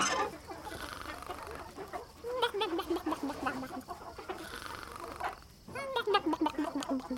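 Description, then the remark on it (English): Hens in a chicken coop cluck and chatter in a steady, overlapping stream, with a couple of louder drawn-out calls rising above the flock, against a faint farmyard background. “Nope, just the hens, and they were pooped.”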